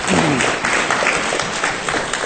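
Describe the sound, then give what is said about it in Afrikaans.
Steady audience applause, a dense wash of many hands clapping at an even, loud level throughout, with a faint voice briefly audible near the start. “Alright, geef hulle 'n hande klap asseblief.”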